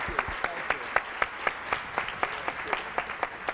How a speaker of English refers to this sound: How about a nice, warm round of applause for Alex Gimignani and Elizabeth Stanley?